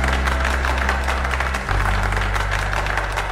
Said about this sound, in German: Hätte ich gewusst, dass ihr klatscht, ich hätte Steppschuhe mitgebracht.